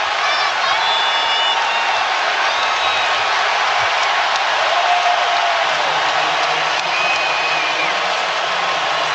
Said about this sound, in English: Boy, it got the crowd fired up regardless if the whistle blew.